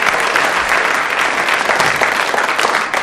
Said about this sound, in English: A round of applause for the four gallant members of the audience who came and held a bottle there.